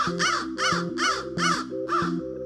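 Crows cawing in a steady series of five harsh, nasal calls, evenly spaced and fairly loud, with no voices present.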